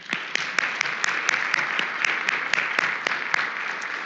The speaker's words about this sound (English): And so let's just applaud all that gave us that.